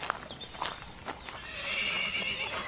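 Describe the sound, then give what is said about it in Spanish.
Two horses whinny with a high, wavering neigh while hooves clip-clop in scattered, uneven knocks as they graze on grass along the banks of a dry stream; the neighing swells and sustains toward the end. No one speaks. “Los dos caballos pastan la abundante hierba de las márgenes del torrente, quizás seco desde hace poco, por tanto, con orillas bien nutridas de hierba.”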